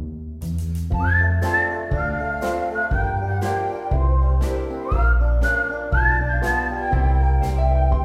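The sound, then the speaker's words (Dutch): A bright, starling-like whistled tune, sung of as a starling named Maurice whistling, rises and glides in repeated phrases over steady instrumental accompaniment, clear, with no voices. “Een spreeuw genaamd Maurice fluit van 1 plus 2 is 3.”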